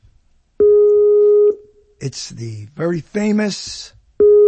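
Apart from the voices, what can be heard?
phone call ringing tone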